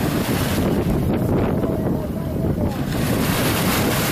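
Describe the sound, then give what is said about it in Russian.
A passenger riverboat, a motor water taxi in the Dutch part of an island, moves along the water, a steady low rumble mixed with the wash of water and heavy wind buffeting the microphone, continuous throughout with no talking. “А это вот трамвайчик.”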